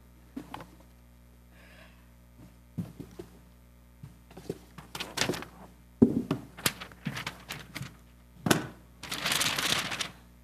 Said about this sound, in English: I like how paper sounds.